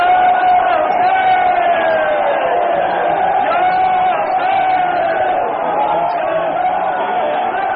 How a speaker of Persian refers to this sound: مردم در مکتب عاشورا مگر چه درسی گرفتید که این گونه فریاد یا حسین سر می دهید؟